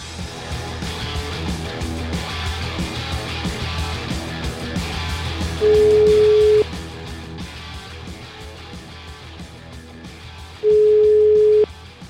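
A telephone ringback tone of an outgoing call from Radio 24 to PD deputy Puglisi sounds twice, each steady beep lasting about a second, roughly five seconds apart, over continuous background music with a steady beat.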